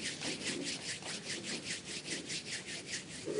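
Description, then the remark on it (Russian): Rustling wind imitated by rubbing, likely palms together, as an imitated rainstorm dies away: a steady run of soft, hissy swishes, roughly four strokes per second, evenly paced and sustained throughout, with no voices. “Шуршит ветер.”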